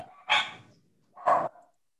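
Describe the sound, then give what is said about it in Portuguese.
A small dog barks twice, two sharp, high-pitched yaps about a second apart, clear with no one talking. “Tem um cachorrinho aí que está agitado, hein?”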